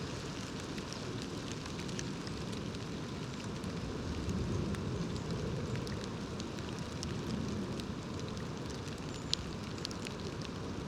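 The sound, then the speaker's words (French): Sleet-like hail, almost frost, patters steadily onto dry leaves of the forest undergrowth, a dense, continuous crackling hiss with scattered sharper ticks throughout, even in loudness, with no voices. “Alors toujours dans rayon éléments naturels, là c'est l'espèce de givre presque de la grêle qui tombe sur les feuilles sèches du sous-bois.”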